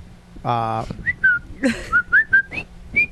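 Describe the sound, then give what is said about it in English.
A person whistles a short melodic tune from Bridge on the River Kwai, a string of clear, high-pitched notes that rise and fall in a bouncy rhythm, with a brief burst of voice at the start. “My father and my grandfather were whistlers back in the day.”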